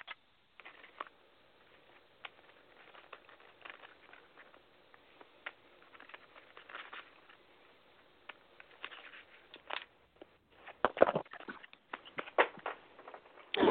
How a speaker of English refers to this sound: give me one moment while I shuffle my deck of cards here, and we'll see what messages come through for you, okay?